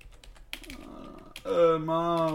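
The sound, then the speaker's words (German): A quick run of computer keyboard taps clicks away for about a second and a half as someone types a name and tries to hit the J key, then a loud, sustained voiced hum takes over. “Muss nur noch das J auf der Tastatur treffen.”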